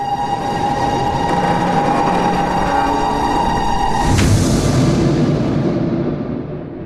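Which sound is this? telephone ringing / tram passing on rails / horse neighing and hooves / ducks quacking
tram passing on rails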